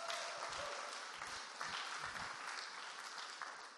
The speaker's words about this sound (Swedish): Och tycker man kan ge en liten applåd för oss.